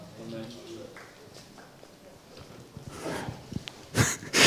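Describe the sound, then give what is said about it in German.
A short stretch of speech gives way to sparse, subdued clapping from an audience, a scattering of soft claps that swells a little louder near the end. “So ein sehr dezentes Klatschen.”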